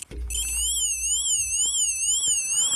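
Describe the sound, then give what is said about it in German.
A Lego toy police car siren wails in a fast, steady up-and-down warble, shrill and electronic, sounding continuously for the whole stretch with a low rumble underneath and no talking. “Ein unscheinbarer Polizeiwagen von Lego entert die Bildfläche und macht folgendes Geräusch.”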